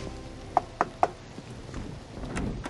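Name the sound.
knock on a door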